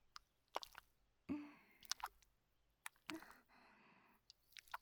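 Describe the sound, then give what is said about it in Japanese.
Thick, slippery seaweed-based lotion pours out onto the chest in a series of soft wet squishes and small plops, sticky and intermittent, with quiet pauses between bursts and no one speaking. “これをトロトロかけておっぱいになじませます。”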